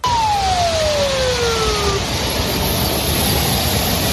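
Armored vehicles and military trucks of the Wagner mercenary group rumble past as they withdraw from the city of Rostov in southern Russia, a loud, steady roar of engines, with a single falling whine sliding down over the first two seconds.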